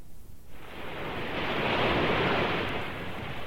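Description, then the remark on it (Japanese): A broad wash of ocean surf swells in after a quiet half-second, a steady roaring rush of waves breaking on the shore that peaks in the middle and eases slightly, with no voices. “いやー、海は広くていいなー。スカッとするぜ、この海の匂いといい。”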